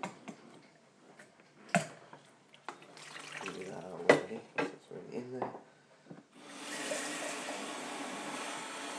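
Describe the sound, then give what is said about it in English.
Clunks and clatter of handling are followed by a tap turned on, sending a steady rush of water into a kettle as it is filled before being plugged in. “Oh, the kettle's not even plugged in. But before we plug it in, I guess it helps to fill up, doesn't it?”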